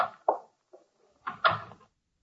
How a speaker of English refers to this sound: Wow, another door closing sound effect that we're breaking on here.